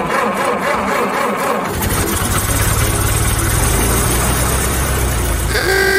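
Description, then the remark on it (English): An early Ford Model T car engine runs with a steady, loud, low rumbling chug that kicks in after a brief moment and continues without pause to the end. “Back in our nation, more than half of all cars sold in the United States are the Ford Model T, as more Americans than ever are able to travel freely across the land.”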